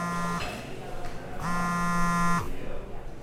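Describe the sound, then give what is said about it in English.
A phone vibrating in a pocket with an incoming call from an unknown number, giving a short low buzz followed by a longer steady buzz of about a second, fairly loud against a quiet background. “Okay, so you're in the middle of enjoying your lunch, and suddenly you hear that all too familiar buzz in your pocket.”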